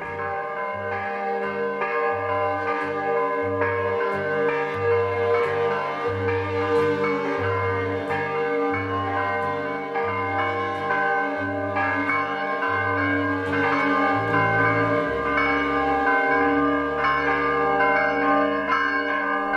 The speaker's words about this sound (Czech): Zvuk prvi zvona sa Saborne crkve kao da je probudio srpsko stanovništvo naše prestonice iz dubokog sna i kao da je oživeo sve slojeve naroda i u njemu izazvao i utvrdio verovanje u bolju budućnost Srbije i njezine prestonice.